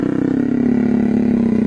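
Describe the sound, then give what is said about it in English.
An adult jaguar purrs while being scratched behind the ears, a deep, steady rumble that runs unbroken and fairly loud, with no voices over it. “I mean, and this is a vicious adult jaguar being scratched behind the ears and purring.”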